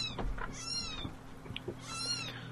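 A small half-white, half-black kitten gives two thin, high-pitched meows about a second apart, each rising and falling, over a low steady hum.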